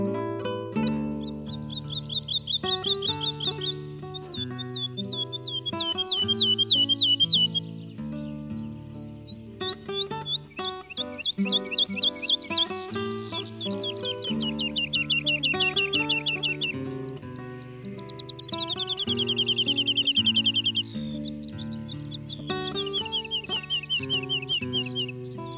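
A woodlark sings clear, repeated trilling phrases, some sliding downward, with brief pauses between them. A steady low musical backdrop plays underneath throughout.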